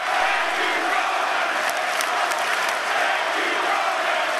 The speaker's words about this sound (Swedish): Och plötsligt så får han vara med om någonting som han aldrig varit med om förut i den här världen. Publiken börjar skandera hans namn.